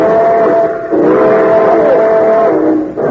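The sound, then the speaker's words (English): Train number 31, the cinder bucket, pulls out from track 3, with a steady, sustained whistle tone held over a loud rumbling rush of mechanical noise, briefly dipping twice before continuing. “Train number 31, the cinder bucket, now leaving on track 3.”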